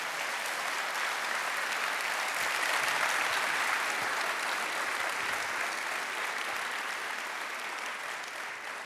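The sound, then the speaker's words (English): Sustained audience applause, one more round for Dr. Tour, a dense, steady wash of many hands clapping at an even loudness for about nine seconds, with no voices standing out. “Can we give Dr. Tour one more round of applause?”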